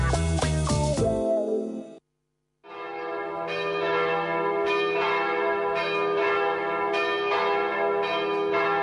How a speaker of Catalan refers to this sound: Sonen campanes. És temps de bodes a Ràdio Estel.